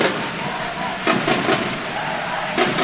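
Löwen handball fans cheer loudly in a steady, dense crowd roar late in a match, with the score at 26-20 and 7.5 minutes left, punctuated by a few sharp, bright claps or bangs in quick succession, then another near the end.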